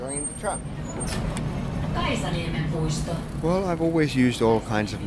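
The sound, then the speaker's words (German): A line 9 tram rumbles in on time and draws to a halt at a stop, a low steady rolling with a brief hiss of brakes, while voices chatter over it toward the end. “Die Straßenbahn rollt pünktlich ein.”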